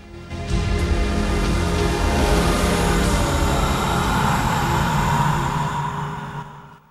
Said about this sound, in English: A freight train rattles along through the night. The master climbs up onto the top of the train and, keeping low, hangs onto the roof.